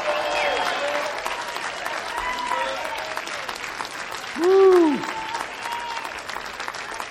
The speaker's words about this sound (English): Come on. Why don't we give Jesus a big hand clap?